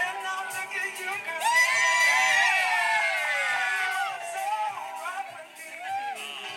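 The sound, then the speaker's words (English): A crowd, heard in a video filmed in the afternoon, cheers wildly, with many overlapping voices whooping and yelling in a loud, sustained roar that swells and stays high throughout, a few shouts rising above the din. “Everyone loses their shit in a minute. Fucking going off.”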